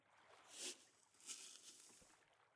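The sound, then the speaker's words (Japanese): Soft, wet squishing of soap foam being worked up in a foaming net beside the listener's ear, with a few brighter crackly bursts of bubbles amid a steady close-up hiss; no voices. “こうしてネットで泡を立てるの。”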